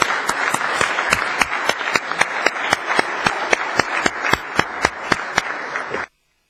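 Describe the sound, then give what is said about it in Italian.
At a council meeting, a crowd applauds to welcome a new councillor to her seat, steadily for about six seconds, a dense wash of clapping with a regular, evenly spaced beat running through it, then stops abruptly. No one speaks. “la signora Rognoni, che io accoglierei con un applauso”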